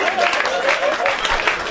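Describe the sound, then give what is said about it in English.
An audience claps in a dense, steady burst of applause after a guest correctly names the movie Poseidon; it stays loud and even throughout, with a voice faintly mixed in beneath the clatter. “Stop clapping!”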